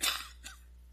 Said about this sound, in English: I've heard several of you coughing and having the sniffles this morning. I'm in the same boat with you, okay? So you cough and I'll cough and we'll make it through this thing, okay?